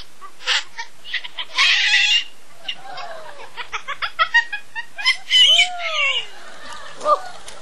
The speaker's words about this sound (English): Singing and all. Yeah, what a great bird you are. What a great entertainer, eh?